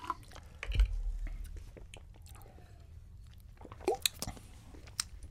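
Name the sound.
sipping water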